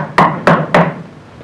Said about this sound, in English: A week later, knock on the door.